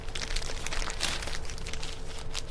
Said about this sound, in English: I'm just going to take the radio out of the package here.